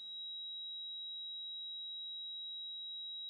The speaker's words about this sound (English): It can be described in many ways. I'd say one of the most common is people will say, I have a high-pitched ringing.